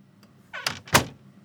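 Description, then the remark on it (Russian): A door creaks briefly on its hinges as a visitor enters, then a sharp knock of the latch or frame follows, fairly quiet, with no voices. “Ну проходите, чего вы замерли в дверях?”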